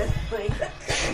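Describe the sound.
A person speaks briefly, then a sudden sharp sneeze bursts out near the end, fairly loud, a single explosive breath.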